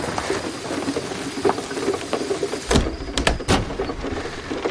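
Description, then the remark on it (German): A bolt scrapes across an old, weathered wooden door and clacks into place with a few sharp knocks, over a steady patter of rain. “Tu mir den Gefallen und leg den Riegel vor die Tür.”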